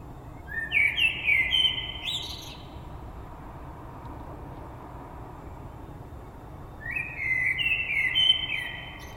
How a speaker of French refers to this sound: Donc là, il est même pas 3h du mat. Ça, c'est comme ça, hein. Il fait nuit, tout ça, et pour lui... Ça, c'est de l'oiseau.